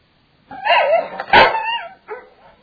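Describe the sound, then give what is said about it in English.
Dogs bark in a short burst of several yips and barks, one sharper bark loudest in the middle, clear with no talking. “These dogs help them.”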